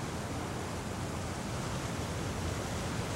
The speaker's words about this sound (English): The cold, cold sea. The sound of the waves singing to me. Calling me.